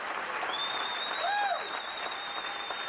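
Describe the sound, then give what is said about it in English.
A large audience at a live orchestra performance gives a standing ovation before the orchestra has played, applauding steadily throughout, a dense wash of clapping with a few whistles cutting through. “Just people, you could see how they're clapping and cheering and celebrating, you know, being out again and watching a live performance.”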